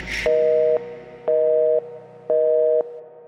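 Three steady electronic phone-call beeps, each about half a second long with short pauses between, ringing out clearly and evenly over a faint background hum, with no one picking up.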